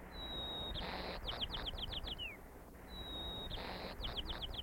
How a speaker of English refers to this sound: These were the songs of two birds recorded only miles apart, but they live in different dialect areas, and it's that second part of the song that denotes the local dialect in the area in which that bird lives.